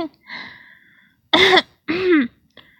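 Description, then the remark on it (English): Two short, harsh coughs about half a second apart, following a faint, drawn-out vocal sound, with a tiny throaty catch at the end. “I think I'm getting a cough.”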